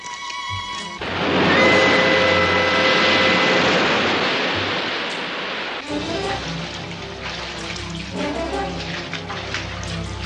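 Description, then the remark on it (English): A loud surge of incoming tide water rushing in swells after a brief pause, churning steadily for several seconds before easing, then voices talk over a lingering watery background. “Oh, the tide's coming in.”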